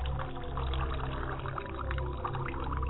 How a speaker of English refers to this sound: Pour libation to the ground, Baba. As the water hit the ground, we pray that the water hits a fertile ground and that the word may take root and spring up in the hearts of men.